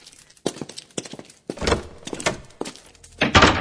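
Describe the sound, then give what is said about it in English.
A soundproof door closes with a series of wooden clunks and knocks, ending in a louder, fuller thud as it shuts. No one speaks. “That door's soundproof, right?”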